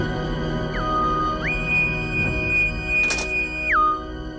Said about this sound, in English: This is where we get the whistle.